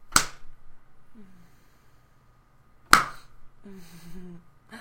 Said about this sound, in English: I think we should start with some spankings. Like that. And I want you to count while I slap you.